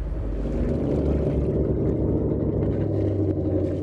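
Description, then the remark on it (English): The deep, throaty engine of a classic Chris Craft yacht rumbles steadily and powerfully as it is revved, its low growl holding strong with slight surges, with no voices present. “John Alexander revs up his classic Chris Craft yacht.”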